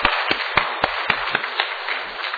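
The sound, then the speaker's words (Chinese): A crowd applauding together, a dense steady patter of many hands clapping with a few sharper, louder claps standing out near the start; people clap together to thank two sisters during a Christian prayer gathering. “好，我们大家一起鼓掌，感谢我们有两位姐妹在这里。”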